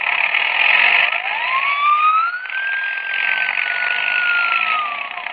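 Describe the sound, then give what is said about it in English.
A police motorcycle siren winds up in a long rising wail and holds high and loud over a steady engine roar, with no voices. “The police motorcycle is waiting outside.”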